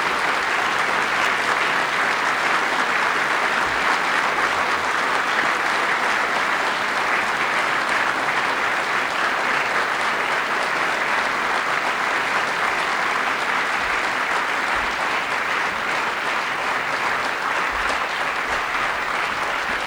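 Sustained audience applause, a steady dense roar of many hands clapping at an even, loud level for the full stretch, with no voices breaking through.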